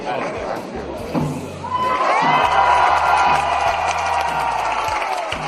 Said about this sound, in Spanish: Y este sonido, estos gritos nos hacen que tengamos un poco la imagen de todas las personas que estaban aglomeradas, sin mascarillas ni distancia social para comenzar las fiestas más importantes del municipio,